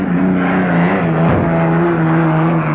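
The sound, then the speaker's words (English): The Miss Budweiser hydroplane racing boat, driven by Dean Chenoweth, roars loudly and steadily as it heads for victory in Heat 2A, its droning pitch dipping sharply about halfway through as it races past, then settling back into a sustained, throaty howl. No one speaks. “Here comes the Budweiser for a victory in Heat 2A. Listen to him.”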